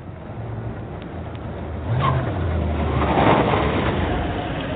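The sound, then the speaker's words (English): A big silver car arrives outside a house on Juniper Avenue: its engine rumbles, rising slightly in pitch as it rolls in and slows, then idles steadily. No voices are present. “Outside, a big silver car arrives.”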